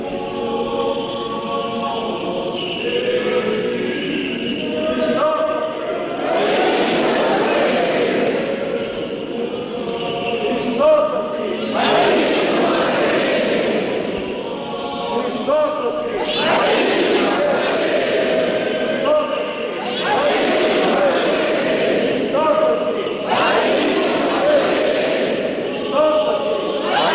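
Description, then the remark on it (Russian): Clergy and laity at an Easter church service chant praise to the risen Christ together in loud, joyful bursts that swell and fade every few seconds, like call and response, with a reverberant crowd murmur filling the space between shouts. “А тем временем привычное христианское богослужение продолжается и с великой радостью и ликованием духовенства и миряне продолжают славить воскресшего Христа.”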